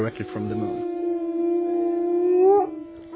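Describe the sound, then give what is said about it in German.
A single long wolf howl, fairly loud, holding a steady pitch before rising and breaking off near the end, with a brief rough sound just before it begins. “So dachten die Leute, dass der heulende Wolf auf irgendeine Weise mit dem Mond kommuniziert und so besondere Kräfte vom Mond bekommt.”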